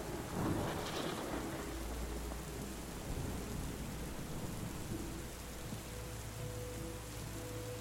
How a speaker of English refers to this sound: In the distance, thunder rolls, soothing your head.